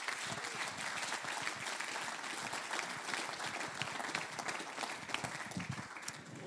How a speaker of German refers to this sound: Ich sage Dankeschön, meine Damen und Herren, einen kräftigen Applaus.